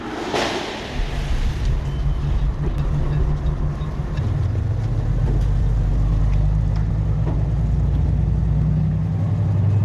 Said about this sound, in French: Pendant que les camions chargent leurs marchandises